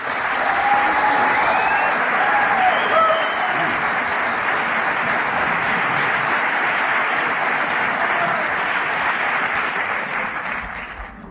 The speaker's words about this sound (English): Thank you. That was so nice. Sometimes it gets embarrassing when the applause are longer before the talk than after the talk.